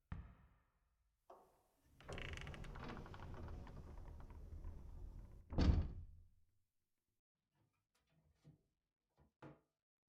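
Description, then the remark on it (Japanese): The door of a storage room in a school gymnasium is opened to go inside: a short knock of the handle, then a long rumbling slide and a heavy thud as it stops, followed by a few faint clicks and taps in the quiet. “静まり返った体育館に響き渡る自分の歩く音に少し不安を感じながら、準備室の扉を開けて中へ入る。”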